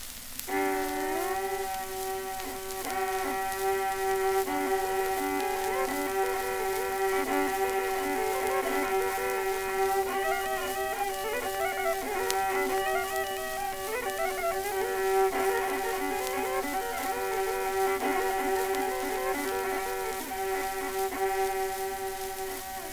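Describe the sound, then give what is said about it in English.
An imitation of Scottish bagpipes: a steady, buzzing drone holds underneath while a reedy melody wanders above it, continuous and fairly loud for the whole stretch, with no talking. “Imitation of the Scotch bagpipe.”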